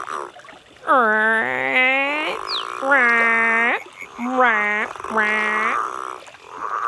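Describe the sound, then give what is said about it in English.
A voice imitates an Australian green and gold frog (southern bell frog or growling grass frog) with four loud, drawn-out growling groans, the first longest, separated by short pauses, with no spoken words. “Can you be a growling, grunting, groaning green and gold frog?”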